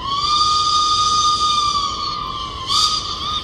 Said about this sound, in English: British steam whistles.